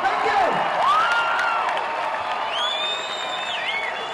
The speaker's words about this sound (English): To gauge the success of the show, all you have to do is listen to the crowd's appreciation.